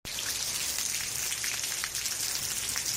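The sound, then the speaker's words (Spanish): Steady heavy rain falls continuously over a city, about 35 litres per square metre in a few hours, a dense hiss of droplets with occasional sharper patters standing out, fairly loud throughout with no voices. “Pues sigue lloviendo.”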